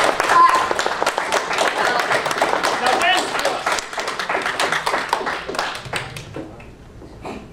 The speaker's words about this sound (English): Please welcome them. That means clap.